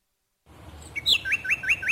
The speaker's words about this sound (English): Hear that? The sound of adorable little birds in your garden.